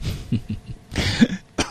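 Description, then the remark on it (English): A couple of harsh coughs with a throaty clearing between them, loud and abrupt, with no talking over them. “Apparently my cough is contagious.”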